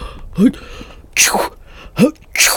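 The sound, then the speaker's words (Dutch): A voice imitates sneezing twice in a row, each a short rising intake of breath followed by a loud, breathy "choo" burst, clear with no other talk. “Toen moest hij niezen.”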